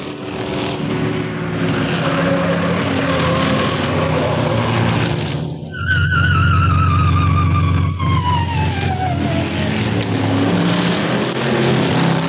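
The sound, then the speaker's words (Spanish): A car engine roars at high revs as the car is driven at its top speed, then tires let out a long, loud screech that slides downward in pitch over several seconds while the motor keeps droning underneath. “¡Corre, corre más! Es todo lo que da esta máquina.”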